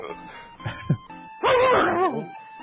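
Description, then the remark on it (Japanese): A person imitates a dog as part of a comedy bit, with a couple of short soft yips followed by one loud, drawn-out whining bark with a rising and falling pitch. “犬のくだりね。”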